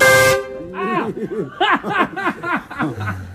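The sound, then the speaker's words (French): A loud, brief car horn blast opens, followed by a quick run of honk-like vocal bursts, a voice imitating the horn with a laughing, bouncy rhythm, in a small alley in Iran. “On se prend un gros klaxon dans la face.”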